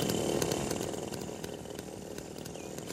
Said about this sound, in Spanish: ¡Señores, pongan en marcha las motosierras! ¡No tan deprisa!